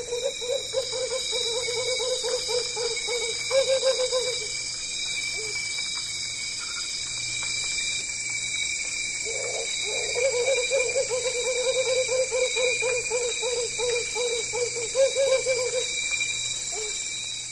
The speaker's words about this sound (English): Okay, this is one of the new species, the Camigan hawk owl from Camigan Sur Island, which is just, it's a small island just north of Mindanao. And they're completely different on Mindanao, I might say.